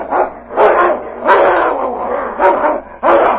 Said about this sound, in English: Suddenly, the growling stopped. One of the animals lay quietly in the snow.